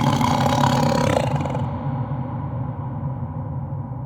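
A tiger roars loudly, one long rough growl that starts bright and harsh, then settles into a deep, rumbling tail that carries on for several seconds.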